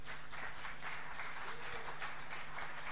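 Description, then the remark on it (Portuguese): An audience applauds together, a steady wash of many hands clapping for about three seconds with no one speaking, while a low hum runs faintly underneath. “Dê um aplauso, irmão, aplauda.”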